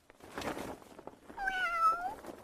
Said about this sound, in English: Cats. Dozens, maybe even hundreds of cats. Don't worry, they're equipped with parachutes.